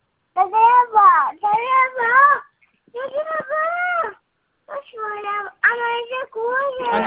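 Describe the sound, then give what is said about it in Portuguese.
A baby girl fusses with a run of whiny, wavering cries in several short bursts separated by brief pauses, fairly loud, with no one else speaking. “A neném tá nervosa?”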